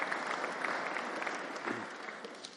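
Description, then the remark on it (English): Steady applause from an audience for all the volunteers, many hands clapping in a dense, continuous patter that stays fairly even in loudness throughout. “Let's have a round of applause for all our volunteers.”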